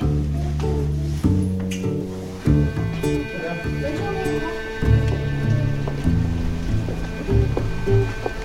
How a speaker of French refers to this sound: Vous voyez, là, on est à l'extérieur et on entend la pluie et les oiseaux.